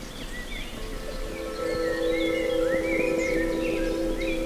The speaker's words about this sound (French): Le chant des oiseaux est omniprésent. La forêt, la verdure, les plantes.